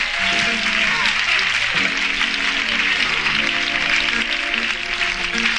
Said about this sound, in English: On my left, the president of Motown Records. Big round of applause for Berry Gordy, Jr.